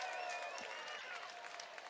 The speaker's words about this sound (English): Pitch. It's called for strike on the outside edge, and there's the cheer.